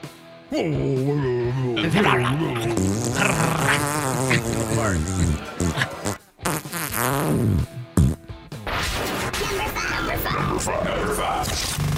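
fart noise

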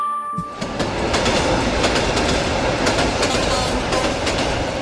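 train passing on rails

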